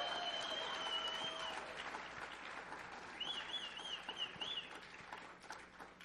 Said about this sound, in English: Now, come on. We need to give the Lord the biggest hand clap right now for what he has done. Come on.